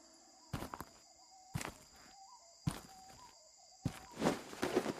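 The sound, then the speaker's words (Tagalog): Slow, heavy footsteps of a man walking in the yard outside a house at night crunch at roughly one-second intervals, ending in a cluster of shuffling steps, while a steady chorus of night insects hums in the background. “May naglalakad sa bakuran namin ah.”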